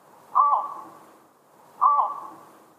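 Two harsh, croaking flight calls of a Eurasian bittern flying over Münster, captured by an automatic bird-sound recording device, each a loud mid-pitched bark that trails off, spaced about a second and a half apart with quiet between them.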